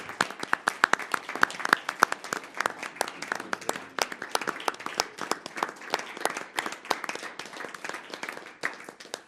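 A crowd applauds steadily for several seconds, dense overlapping claps with sharp individual hits standing out, staying fairly even in loudness before thinning slightly toward the end. No one speaks.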